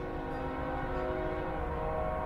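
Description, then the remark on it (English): A train rolling through Sunbury, Pennsylvania on 3rd Street, one block away, rumbles steadily while its horn sounds a sustained, droning blast throughout, loud and unbroken, with no voices. “Sometimes the train rolling through Sunbury, Pennsylvania on 3rd Street, just one block away, sounds like it's pulling up to the house.”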